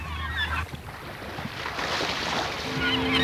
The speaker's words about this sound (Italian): I gabbiani ci sono anche qua.